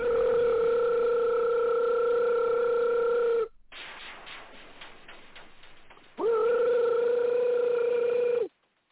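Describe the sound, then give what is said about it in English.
A telephone rings in two long, steady electronic bursts, loud, with a few seconds of quiet rustling between them and no one speaking. “Get your phone, man.”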